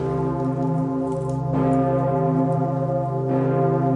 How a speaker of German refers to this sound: Für alle läutet die Pummerin, so heißt die große alte Glocke im Nordturm des Stephansdoms. Sie läutet nur zu ganz besonderen Anlässen, und das ist so einer.